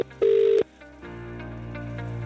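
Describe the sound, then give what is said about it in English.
A short, loud electronic phone beep, then a steady, quieter line tone that hums on, like a number being dialed and the call connecting. No one speaks. “Phone number's dialing, ready to go.”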